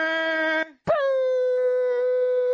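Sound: voice imitating air horns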